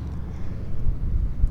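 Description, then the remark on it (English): Wind rumbles and buffets steadily, a low, blustery roar that swells in gusts toward the end, with no voices over it. “Now we got wind.”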